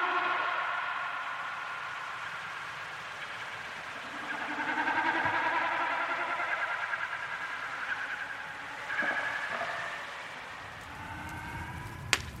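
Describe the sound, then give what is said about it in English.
Snipe drumming during a display flight, made by the vibration of the birds' feathers: a low, throbbing, bleating hum that swells and fades in repeated waves, with a faint steady background rumble beneath and no voices. “The sound of snipe drumming”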